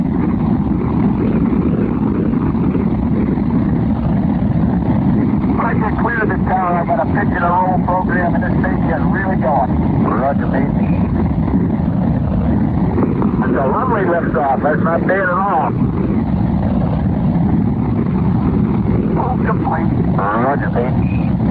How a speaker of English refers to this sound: We have guidance internal. 10, 9, 8, ignition sequence start. 6, 5, 4, 3, 2, 1, 0. All engines running, commit. Liftoff. We have liftoff, 11:22 a.m. Eastern Standard Time.